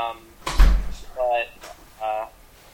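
knock on a door

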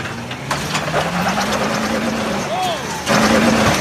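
truck engine revving

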